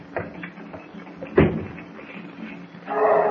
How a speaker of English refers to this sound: Come on, let's see what's happened. Here, I'll open the screen door.